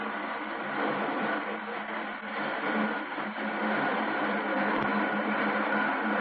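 Railway roundhouse at midnight as old number 9 is switched at the yard: a steady, dense mechanical hiss and rumble that drones on without a break, with one brief low thump near the end and no voices.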